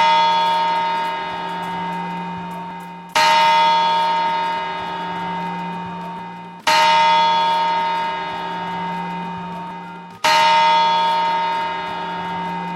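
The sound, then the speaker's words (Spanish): Deep, resonant clock tower bell strikes marking the New Year, four heavy chimes spaced evenly about three seconds apart, each ringing out with a long humming decay before the next toll. No voices. “Cada uva representa un mes del año y hay que tomarlas al ritmo de las campanadas para asegurar suerte, salud y prosperidad para los 12 meses siguientes.”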